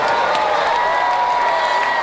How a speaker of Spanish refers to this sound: Oye, qué gran ovación es.